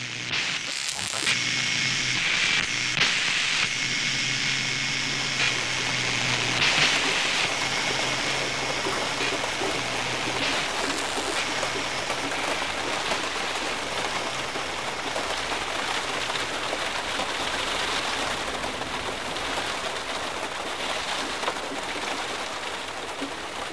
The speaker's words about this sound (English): Torrential rain continues over the whole of South Yorkshire. The River Don has broken its banks.